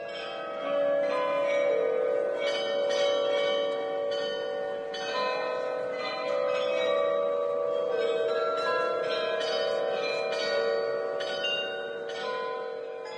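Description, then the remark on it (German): A world-famous glockenspiel in a town hall tower, started by pressing a button, rings out a steady melody of bright, overlapping bell tones, sustained and resonant, with no talking over it. “Im Rathausturm das weltberühmte Glockenspiel starten.”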